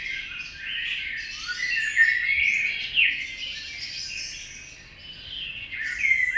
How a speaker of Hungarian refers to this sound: Most legyen egy fekete rigó szól erősen.